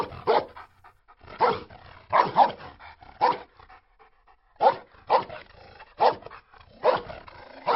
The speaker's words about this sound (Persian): هنوز رکاب چندانی نزدیم که سر و کله چند سگ از حاشیه جاده پیدا می‌شود و دوباره ماجرای تعقیب و گریز ما و سگ‌ها آغاز می‌شود.